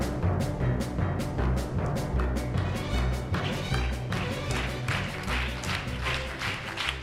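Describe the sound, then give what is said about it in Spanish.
The fast, upbeat theme jingle of "lo mejor y lo peor", the fastest quiz game on the radio show La Radio del Cole, plays steadily, its rhythm driven by sharp, regular percussive hits like claps over sustained low tones, with no voices over it. “Siempre he deseado aplaudir esta sintonía porque es la sintonía del juego más rápido de la Radio El Cole, lo mejor y lo peor.”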